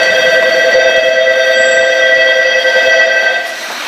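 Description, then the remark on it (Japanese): At platform 2 of a train station, a loud, steady electronic departure signal rings with sustained tones for a few seconds as a Tōyō Rapid train bound for Nakano is about to depart, dropping slightly in level at the end, with no one speaking. “2番線東洋快速中野行き間もなく発車いたします。”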